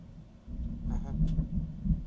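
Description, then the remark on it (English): A low rumble of rolling thunder swells and rolls on throughout, deep and muffled, with a brief faint voice-like sound partway through. “I told you had rolling thunder.”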